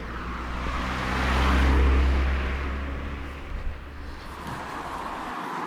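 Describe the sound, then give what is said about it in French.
A Scénic car drives past on a quiet village road near Bailleul, its engine hum swelling to a peak and fading, with a second car, a Corsa, following close behind. No one speaks. “Bon, y a deux voitures qui se suivent, ça, à mon avis, c'est un phénomène.”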